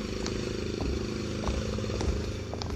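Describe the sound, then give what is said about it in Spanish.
A lawnmower engine runs steadily while cutting grass, a constant low, buzzing drone with a throbbing rhythm and occasional light clattering ticks, holding even loudness throughout with no voices. “Además del ruido de la podadora, trae puestos los audífonos y de seguro a todo volumen como es su costumbrota.”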